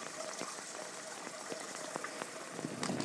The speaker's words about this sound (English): Drains in the rain.